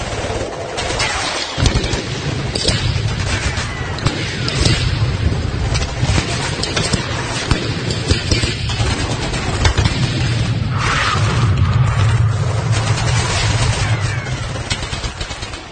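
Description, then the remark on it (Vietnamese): Dense, continuous gunfire from large and small guns, with sharp cracks and heavy booms layered over a low rumbling roar, sustained and loud throughout like a battle scene. “tiếng súng lớn nhỏ lại tiếp tục nổ giòn và dữ hơn trước.”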